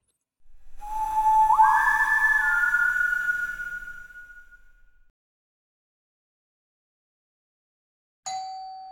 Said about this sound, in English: The doorbell rang out, echoing up the passageway.